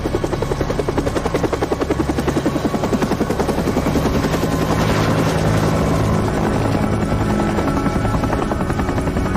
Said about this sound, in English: filming Sam fastening his seatbelt as the helicopter takes off